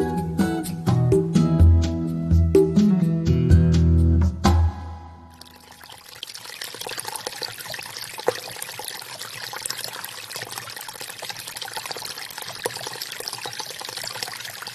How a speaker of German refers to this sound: Was so schön sprudelt, gluckert und blubbert, das ist das Wasser von einer Quelle. Wir alle kennen das Geräusch.